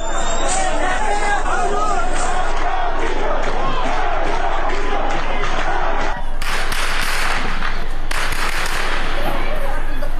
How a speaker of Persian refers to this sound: از سوی دیگر تصاویر دریافتی از مهاباد در روز پنجشنبه نشان می‌دهد که تجمع شمار انبوهی از شهروندان معترض در مقابل فرمانداری این شهر با تیراندازی شدید و ممتد ماموران به سمت معترضان مواجه شد.